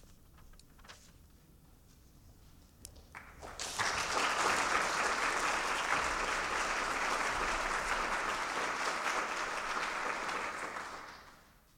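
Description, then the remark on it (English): After a few seconds of quiet room tone, an audience breaks into loud, steady applause greeting a singer before the song, rising quickly, holding as a dense wash of clapping for several seconds, then tapering off. “That they greeted you with applause, you smiled at them, but you really should thank them.”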